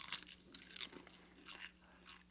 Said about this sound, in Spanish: También puede escuchar cuando mastica un azotador.